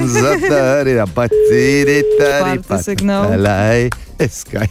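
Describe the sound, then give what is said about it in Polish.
A single steady telephone ringback tone sounds for about a second while Eska radio calls a man, partly buried beneath people talking over it throughout. “Matko, w ostatniej chwili odebrałeś po piątym sygnale, już miałam się rozłączać.”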